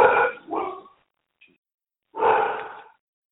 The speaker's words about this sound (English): Someone's dog wants to have something to say. Yeah, the dog wants to go first.